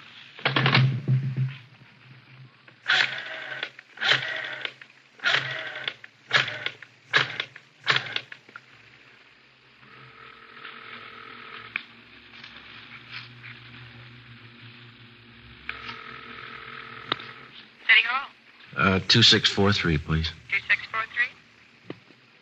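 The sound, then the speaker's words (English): A telephone on a kitchen table is dialed to call in to the crime lab: several quick bursts of mechanical clicking, then a steady humming line tone, with a short burst of voice near the end. “I want to call in anyway. Do they have a phone here?”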